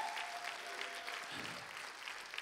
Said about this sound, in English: Come on, if you believe all things are possible, give them the biggest round of applause you've given them today. Hallelujah.